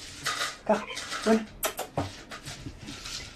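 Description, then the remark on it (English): Dishes and cutlery clatter as a cat is being fed, in an uneven run of clinks and scrapes, with a few sharp bright knocks near the middle and a faint murmur of voice underneath. “Sorry, do you mind if I just take a break for a sec to feed the cat?”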